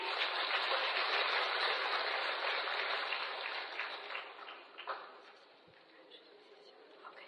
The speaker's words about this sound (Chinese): 心灵法门真实不虚，让我们掌声欢迎。